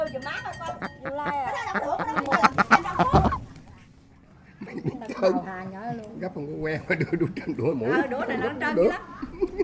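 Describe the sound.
A duck waiting to be prepared as food quacks on a Sunday morning in a burst of rapid, harsh calls while people talk in the background; after a short lull the voices continue.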